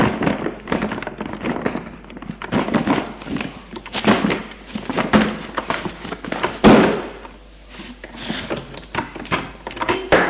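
A door is shoved repeatedly against a person lying collapsed behind it, with a series of irregular thuds, scrapes and creaks, building to a loud bang midway before quieter rattling and knocks trail off.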